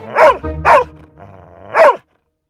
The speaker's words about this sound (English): But then we asked about Casey again, and she just started full-fledged barking.